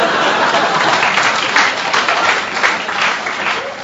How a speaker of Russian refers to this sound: Да, да, да. Девушки аплодируют, я вижу.